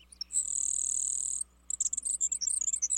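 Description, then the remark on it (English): A grasshopper sparrow sings a thin, high, insect-like buzz lasting about a second, followed by a quick jumble of short, sharp high notes, clear with no talking. “Other birds are so buzzy that they're easily mistaken for insects, like this grasshopper sparrow.”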